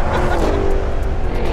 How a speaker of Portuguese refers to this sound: É impressionante como um carro, um SUV, né, na verdade, com quase 3 toneladas, consegue arrancar com essa rapidez, esse golpe. A frente, não sei se você percebeu, a frente levantou de um jeito impressionante.